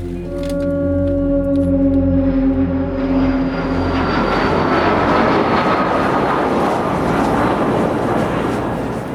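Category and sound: vehicle, airplane engines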